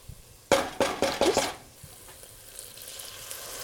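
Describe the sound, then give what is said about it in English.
Water is added a little at a time to a hot pan of oil treated with spices including coriander powder, the base of a lentil dish, to keep it from burning: a quick series of five or six loud bursts of sizzle, each a sharp hiss, then the frying settles into a faint steady crackle. “I'm trying to make this pasty and oily, so that's why I'm adding the water just a little bit at a time, slowly and slowly.”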